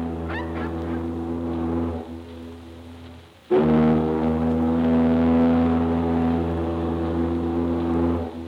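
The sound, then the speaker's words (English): A deep, droning ocean liner horn sounds in two long blasts, the first steady and moderate, the second starting abruptly louder and holding for several seconds, with no voices. “You can make a tugboat out of an ocean liner.”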